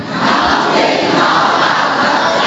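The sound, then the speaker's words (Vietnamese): A crowd shouts together in a dense, continuous roar of many voices, holding loud and steady for the whole moment with no clear pauses or single voice standing out. “Sao càng ngày càng bé vậy? Sao không hét to lên vậy?”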